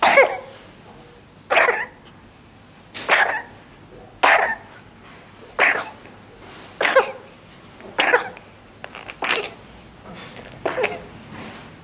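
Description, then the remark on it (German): A baby's wet, raspy cough repeats about nine times in a steady rhythm, each burst short and fairly loud, with brief quiet gaps of faint breathing between them and no talking. “Gerald, könnte sich so ein RSV-Husten anhören?”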